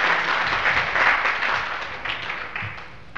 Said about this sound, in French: Pas grand-chose, là, mais ils ont été remerciés, ils ont été applaudis, mais...